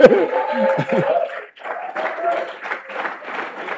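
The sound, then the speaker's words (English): An audience claps together in appreciation of God's power, a dense, steady wash of applause, with raised voices and shouts mixed in at the start before the clapping carries on alone. “Now, if you appreciate God's power, you will clap very well.”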